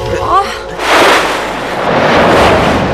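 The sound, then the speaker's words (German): A wave crashes and drives a rowing boat onto the sandy beach of an island, a loud hissing, roaring surge that swells, eases briefly, then rushes in again, after a short voice-like sound at the start. “Die Welle hat uns direkt auf den Sandstrand geworfen.”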